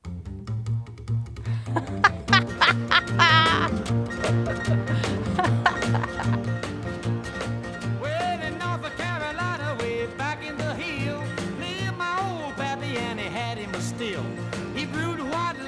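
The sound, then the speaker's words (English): A country song opens on a steady, bouncing bass line, pulsing low and loud beneath twangy instruments and sharp percussive hits, with a singing voice soon weaving in over the groove. “Oh, listen, just listen to the bass at the top.”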